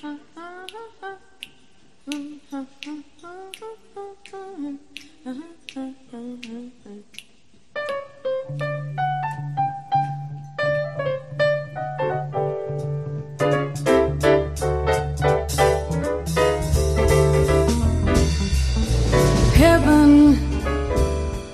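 A recorded song opens with a sung melody over steady, crisp finger snaps keeping the beat; a low sustained bass enters, and the accompaniment swells into a fuller, louder band toward the end.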